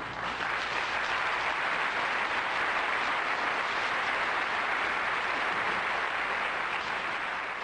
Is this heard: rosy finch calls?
no